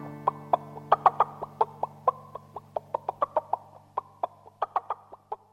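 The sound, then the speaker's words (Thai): A chicken clucks steadily, a quick series of about twenty short, sharp mid-pitched clucks in an uneven rhythm, with no talking over them. “ใครจะเป็นลูกเจี๊ยบ หนูอยากกระโตกกระตาก”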